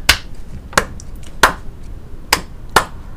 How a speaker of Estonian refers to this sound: This is the clave de Cuba.